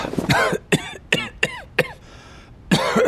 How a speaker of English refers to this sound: He'd closed his eye with the sharpness of the coughing, but now he cautiously opened it again.